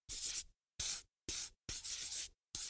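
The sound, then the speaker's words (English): A red pencil scratches across paper in five quick bursts of scribbling, like drawing a circle round a picture and then coloring it in, with brief pauses between strokes and no voices. “Put a circle round it with a red pencil and color it blue.”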